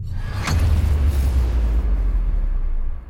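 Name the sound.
explosion boom effect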